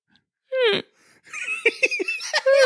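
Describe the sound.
A voice imitates a small, baby-like snore: a quick rising squeal, then a string of short nasal snorts and wheezy grunts that end in a drawn-out whine.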